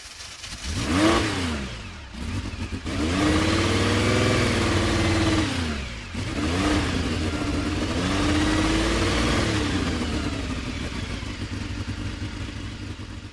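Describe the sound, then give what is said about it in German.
A Lamborghini 350 GT sports car from 1964, with a 3.5-liter twelve-cylinder engine making 280 hp, revs in repeated surges, climbing in pitch, dropping back, then swelling into a long sustained roar with no voices present. “Der Lamborghini 350 GT. Er war die Antwort auf Ferraris spöttisches Argument. Mit einem 3,5 Liter Zwölfzylinder leistete er 280 PS.”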